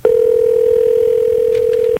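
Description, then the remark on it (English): A single steady telephone ringback tone on a call to Barry, Vermont, a loud continuous electronic hum holding one pitch for about two seconds before cutting off, with no voices over it. “One ring.”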